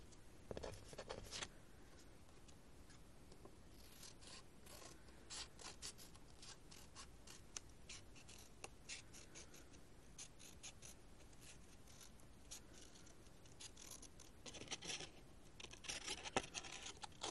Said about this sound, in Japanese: それでは、下書きした線に沿って渦巻き状にハサミを入れていきます。